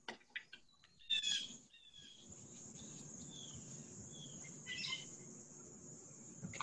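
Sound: wild birds calling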